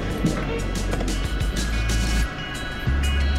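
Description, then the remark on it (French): Steady low rumble of a large vehicle on the move, heard from inside the cabin, with constant road and engine drone and a brief dip before it picks back up. “J'avoue que celle-là, elle est impressionnante. Ouais, c'est cool. C'est une taille luxe là.”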